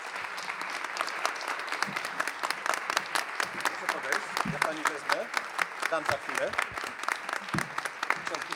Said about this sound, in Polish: Laureat Nagrody Świętego Maksymiliana Kolbego 2025, pani Józefa Staroń. Wielkie brawa.